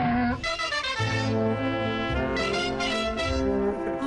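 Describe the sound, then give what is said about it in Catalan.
A Catalan donkey, an endangered breed, brays loudly and continuously, its harsh, rasping call see-sawing between higher and lower pitches for several seconds, with no talking. “El nostre símbol nacional no és el carquinyoli ni la calba de Xavi Coral, és el burro català.”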